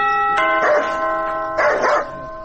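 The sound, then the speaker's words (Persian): A steady electric doorbell buzz sounds at a gate and holds for about two seconds, while a dog barks loudly twice in short bursts over it. “تو باش که یک دفعه می زنگ دروازه را بزنم.”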